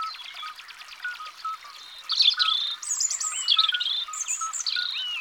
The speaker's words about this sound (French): Un rouge-gorge s'est approché.